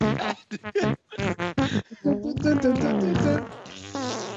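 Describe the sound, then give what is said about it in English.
A short tune built from buzzy, flatulent blurts, starting as choppy bursts and settling into a sustained, wavering melody. Loud, with no talking. “Is it a farting song?”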